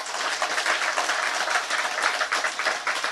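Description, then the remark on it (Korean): A crowd claps steadily, a dense wash of many overlapping hand claps at a fairly even loudness throughout, with no voices standing out. “박수 한번 쳐봐.”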